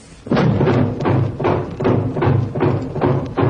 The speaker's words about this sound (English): Hey, we're trapped. Steel shutters over all the doors and windows.